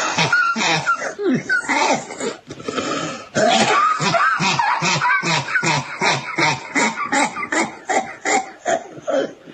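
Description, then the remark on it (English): A loud fit of hacking coughs, one harsh burst after another in a rapid, steady rhythm for several seconds, with a raspy, throat-clearing quality and brief gasps between. “Nice cough.”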